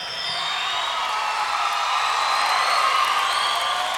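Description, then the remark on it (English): A crowd claps and cheers in a steady, dense roar that stays loud for the full four seconds, with occasional high whoops and whistles rising above the applause. “applause, everybody.”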